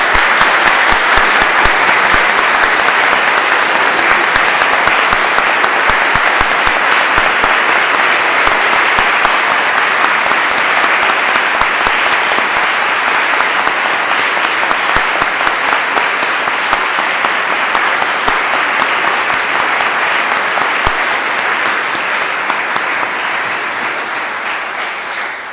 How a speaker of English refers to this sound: So on behalf of the faculty and the administration of Bethany Lutheran College, we applaud and recognize and congratulate these students. Congratulations.